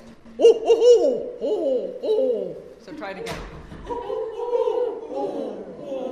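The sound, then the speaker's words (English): A person mimics an owl, voicing a quick series of wavering hoots, followed by a brief rustling burst and more drawn-out hooting calls, while training adult volunteers how to teach children about owls. “Here she is training adult volunteers how to teach kids about owls.”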